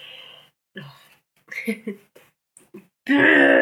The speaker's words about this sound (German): So, ich muss mir die Nase putzen.